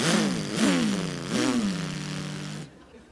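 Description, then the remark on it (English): A small lawnmower engine sputters and revs in three quick surges, each rising in pitch before settling into a steady loud drone that cuts off abruptly. “And I got my lawnmower.”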